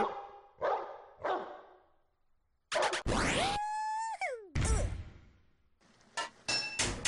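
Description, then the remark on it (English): A dog in a pipe-fitting video game barks three quick times, followed by loud clanging game effects, metallic hits and a bright sliding electronic tone that bends downward. “Goodbye, dog.”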